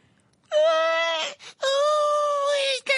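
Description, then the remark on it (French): A voice lets out two long, loud, high-pitched shrieks while pressing her hands over her ears, one after the other with a brief gasp between them, each sustained and wavering like a piercing wail. “plaqua ses mains sur les trous de son chapeau, en s'aplatissant les oreilles pour ne plus rien entendre et poussa un hurlement suraigu.”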